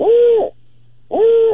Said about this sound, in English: Five notes. Great horned owl.